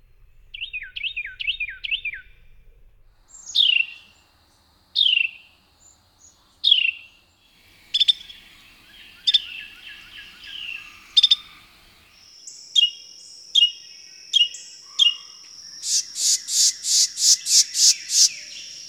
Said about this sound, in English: The Carolina wren has a loud and ringing song, plus a variety of calls.